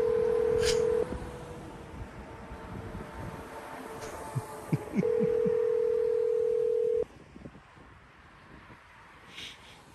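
Phone tones from a call being placed on a plugged-in phone sound over a low background rumble: a steady, mid-pitched tone plays for about a second, then after a gap a longer two-second tone, with a few soft clicks in between.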